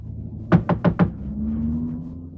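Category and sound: household object, knocking on a door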